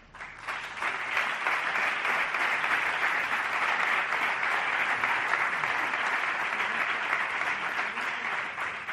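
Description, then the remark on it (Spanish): Sustained applause from a large audience at an award presentation, a dense steady wash of clapping that starts abruptly and holds at an even, fairly loud level for the full nine seconds. “Más os vale aplaudirle a Cristina”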